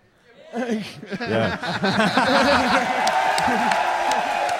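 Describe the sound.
A lively crowd at an exhibition prize-giving cheers, waves and chatters, many voices overlapping with bursts of laughter and scattered claps, swelling quickly and holding at a steady, fairly loud level.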